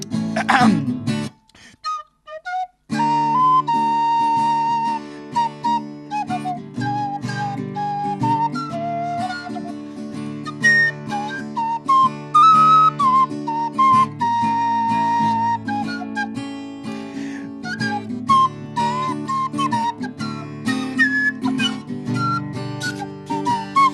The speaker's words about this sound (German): Und auf Sunset Boulevard pfeife ich ein Lied für dich.